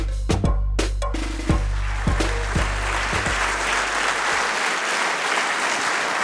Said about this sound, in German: Das sind wir gar nicht mehr gewohnt, gell? So viel Applaus. Ja, wir können schon wieder gehen nach dem Applaus.